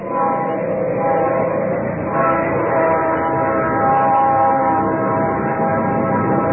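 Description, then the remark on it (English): A train rumbles past steadily at a constant loudness, its broad low roar mixed with sustained tonal whining for several seconds, with no talking over it. “Let that train get past.”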